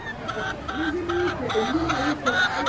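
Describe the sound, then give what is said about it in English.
Chickens cooped up in a wire cage cluck and squawk repeatedly, their calls overlapping against a dense, bustling market-day background with faint murmuring voices, in one of Accra's poorest neighborhoods. “The chickens cooped up inside this wire cage will be on someone's dinner table tonight.”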